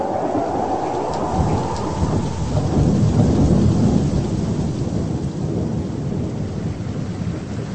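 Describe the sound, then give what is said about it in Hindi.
A steady roar of heavy rain pours down without pause, with deep rumbling thunder swelling in the middle and slowly fading, while the downpour continues loud throughout. “ये चित्र में हमें देखा थे कि परमेश्वर 40 दिन बद्री से लगातार पानी बरसा लग।”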